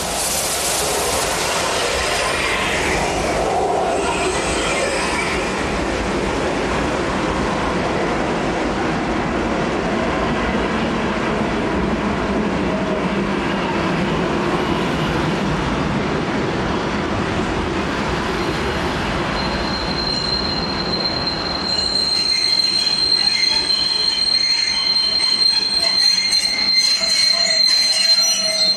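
A steam express train departs, rumbling loudly with dense, continuous rolling noise, then high metallic wheel squeals ring out near the end. No voices are heard.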